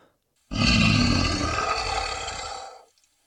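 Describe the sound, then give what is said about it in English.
A single loud, deep monster roar, a Chinese dragon sound effect, bursts in and rumbles with a gritty, growling texture for about two seconds before cutting off. No talking. “we had a roaring, wing-flapping, tail-swishing, splashing, and bleeding good time in that quiz”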